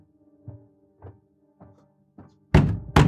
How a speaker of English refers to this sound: I just accidentally knocked something over. It's fine. It better be. Did you break anything? Mom, it was just a picture frame. Little broken glass.